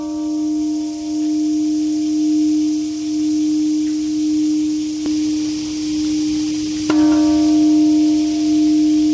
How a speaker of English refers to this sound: In the early hours of this morning, the peace bell struck amidst the summer orchestra of cicadas to mark the moment a US B-29 warplane dropped a bomb codenamed Little Boy, obliterating the city.